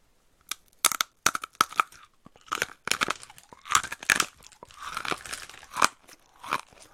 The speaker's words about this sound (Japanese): 小麦のお菓子なんですけど、これちょっと今、咀嚼音聞かせますね。どのぐらい硬いかちょっと伝わるかわかんないけど、食いますね。